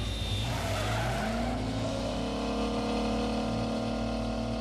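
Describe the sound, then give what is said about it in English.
A car's tires squeal in a long, loud skid as it brakes hard from 150 km/h on Stephen Street to avoid a dog, swerving and sliding sideways toward a pole; the pitch slides upward before holding a steady shriek over a rumbling engine, continuous with no voices. “I hit the brakes and tried to swerve, but we slid sideways and nearly hit a pole.”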